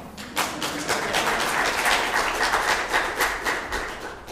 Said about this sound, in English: So, in fact, you should really clap twice